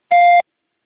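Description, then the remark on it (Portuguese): A single short electronic beep from an automated phone support line, steady and clear, lasting about a third of a second, followed by silence as the caller's recorded message is about to start. “Após o bip, por favor, me fale o seu nome completo, CPF, telefone com DDD, e-mail e sua solicitação.”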